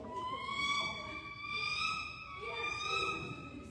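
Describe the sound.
A person imitates a bald eagle's call with a long, high, piercing cry that wavers and swells about three times, holding steady in pitch with no other talking.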